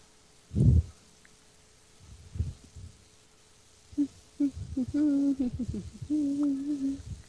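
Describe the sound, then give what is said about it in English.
A voice hums the Mario theme, a bouncy run of short, low notes followed by a few longer held ones, preceded by a brief soft thump and quiet rustling. “I think I was just actually humming the Mario theme.”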